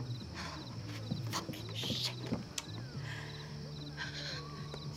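A person stomps onto a wooden porch at night, a few heavy, irregularly spaced thudding footsteps, over a steady low hum and repeated chirping of night insects.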